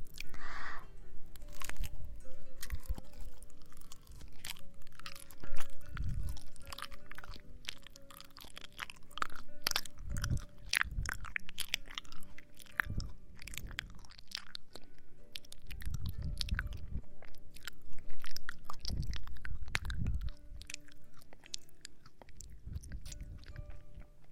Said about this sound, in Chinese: 我把香蕉剥开，先让弟弟吃，好不好？你先咬一口，来，张嘴，啊！